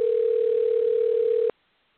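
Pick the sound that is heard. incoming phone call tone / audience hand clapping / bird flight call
incoming phone call tone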